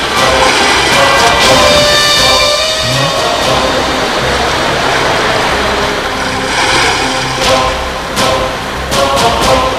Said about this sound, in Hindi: हे प्रभु, मैं इस उफनती हुई नदी को कैसे पार कर पाऊंगा?